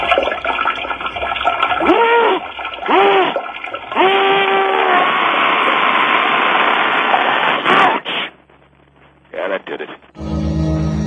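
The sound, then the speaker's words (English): Liquid pours loudly and steadily into metal underwear worn by a man for about eight seconds, a rushing, splashing stream with voices sounding over it, before it cuts off into near quiet. “He'll be pouring that liquid into his metal underwear.”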